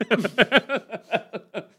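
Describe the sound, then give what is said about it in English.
A person imitates a puppy's whimpering: about ten short, high, whiny yelps in quick, uneven succession, each pitch sliding down. The voice is fairly loud, with no other sounds around it. “You know when you love something as a child, you make puppy sounds?”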